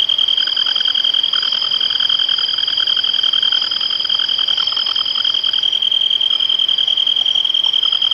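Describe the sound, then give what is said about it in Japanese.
A kantan tree cricket trills loudly and without a break, a steady high continuous ringing, with a busy chorus of other night creatures chirping underneath throughout. “虫は大きく鳴いているのはカンタンです。”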